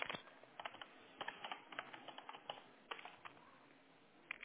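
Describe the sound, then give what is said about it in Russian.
Someone types on a computer keyboard, apparently in English, in a quick, uneven patter of soft key clicks with brief pauses, quiet, with no one speaking. “Он как-то на английском печатается.”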